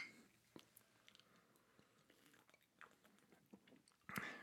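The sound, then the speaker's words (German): Glasses clink together in a toast to Steffen, the late drummer of the band a band, a bright ringing knock near the end, preceded by scattered soft clicks and rustles with no talking. “Ja, auf Steffen. Auf Steffen, Prost.”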